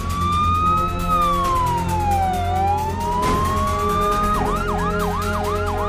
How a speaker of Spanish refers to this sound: Mientras que las sirenas de las ambulancias advertían de que algo fuera de lo normal estaba ocurriendo en el corazón de la península